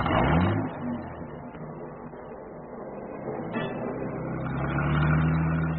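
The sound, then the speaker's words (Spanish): A car engine revs up with a rising growl, settles into a steady rumble, then climbs in pitch again as it accelerates while the driver floors the accelerator and drives away down a narrow alley. The engine is fairly loud and alone, with no voices. “Que hundió el acelerador del auto.”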